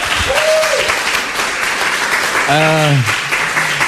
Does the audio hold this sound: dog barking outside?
no